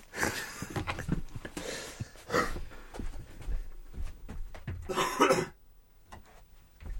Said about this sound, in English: See? I've just coughed into your microphone now, which probably isn't great for you.